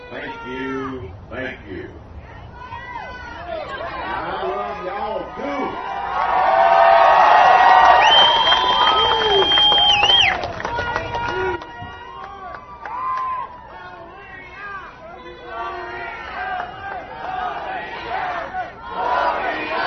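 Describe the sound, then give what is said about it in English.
A large crowd of Herman Cain supporters roars and cheers with many overlapping shouting voices as Cain joins the podium with his wife to address them, broadcast live on C-SPAN, swelling to its loudest in the middle with a sharp whistle before settling into a steady din of shouts. “He has joined the podium with his wife, and he's about to address what seems to be a crowd littered with Cain supporters.”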